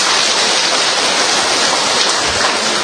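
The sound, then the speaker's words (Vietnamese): A crowd claps in a dense, steady roar of applause, loud and even throughout the few seconds, with no voices rising above it; another round of applause for a couple who have come five times. “Cho một tràng pháo tay nữa đi thưa anh chị em.”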